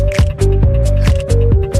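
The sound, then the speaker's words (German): An Australian pedestrian crossing signal, a traffic light tone that tells blind people it is the green phase, ticks in a steady, rapid rhythm within a song, its sharp clicks sitting among deep bass pulses and a sustained synth tone. “Das Geräusch stammt von einer Ampel in Australien. Ein Signalton, der blinden Menschen die grüne Phase signalisieren soll.”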